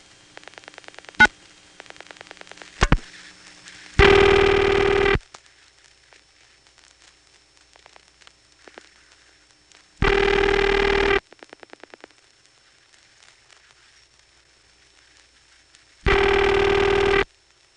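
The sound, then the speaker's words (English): Faint rapid clicking pulses of a telephone exchange register sender dialing 0 plus the last 5 digits of a 690 number, then a loud telephone ringing tone sounding in one-second bursts about six seconds apart, three times, with no talking. “Here's a 690 ringing number. The register sender will dial 0 plus the last 5 digits.”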